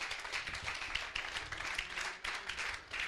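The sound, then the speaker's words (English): An audience claps hands in praise of the Lord, a dense, steady wash of many overlapping claps that keeps going throughout without pause, with no one speaking. “Give the Lord a hand clap of praise in this place.”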